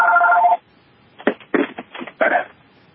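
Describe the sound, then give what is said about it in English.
A telephone, just repaired by AT&T, rings with a steady, tonal electronic trill, thin and band-limited. After a short pause come several choppy, buzzy bursts of the same tinny quality. “Well, I guess my phone is finally fixed.”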